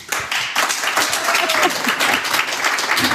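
Sustained audience applause welcoming a guest speaker, a dense steady wash of many hands clapping at an even, loud level, with faint voices mixed in underneath.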